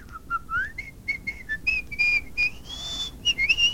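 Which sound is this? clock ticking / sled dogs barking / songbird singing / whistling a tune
whistling a tune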